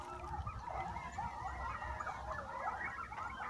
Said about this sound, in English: The playful coyotes are howling a song.